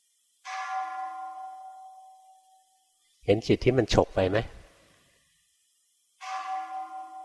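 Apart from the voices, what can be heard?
bell being struck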